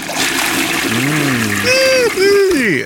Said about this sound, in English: Toilet water.